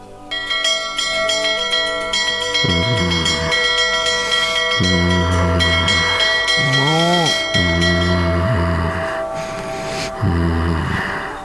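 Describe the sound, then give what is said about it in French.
Old Celtic bells ring continuously with bright, shimmering overtones that hang in the air, while deeper, rounded tones pulse in separate strokes every second or two beneath them. “Pour vous dévoiler la réponse à cette question, je vais utiliser de vieilles cloches celtiques transmises de père en fils et achetées hier à Monoprix.”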